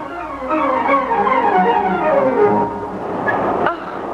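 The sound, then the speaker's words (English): A train pulls away with steady rumbling and long squealing, gliding metallic tones from the wheels, ending with a sharp clank near the close. No voices. “The train's starting to sway already.”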